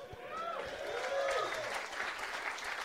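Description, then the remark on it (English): A crowd applauds steadily for a few seconds, a dense patter of clapping at moderate volume, with some indistinct voices rising briefly above it. “Telling the story about the Undertaker almost dying and I'm begging for applause.”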